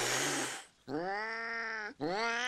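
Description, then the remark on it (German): Two cats, an older resident cat and a newcomer it will not accept, quarrel: a harsh hissing burst, then two long, strained yowling growls, each held for about a second with a brief gap between them. “Doch die ältere Katze will den Neuankömmling nicht so richtig akzeptieren. Immer wieder gibt es deshalb Streit.”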